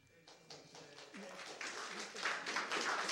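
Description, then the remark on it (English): Scattered audience clapping during public comment at a public meeting quickly builds into a dense, steady patter of many hands, growing louder over a few seconds, with a faint voice murmuring underneath. “Please refrain from clapping.”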